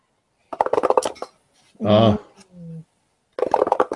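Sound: dice being rolled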